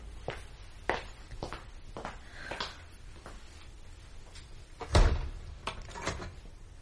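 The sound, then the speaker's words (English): A side door opens and shuts: a string of light latch clicks and creaky knocks, then one heavier thud of the door closing, with faint clatter after it and no voices. “I used the side door.”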